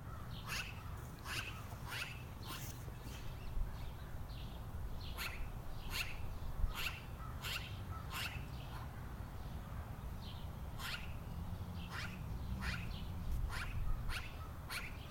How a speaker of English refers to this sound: Maybe hearing the magpies again is what got me thinking about birds in the first place. But where is the bird? Is it in a tree or on the ground?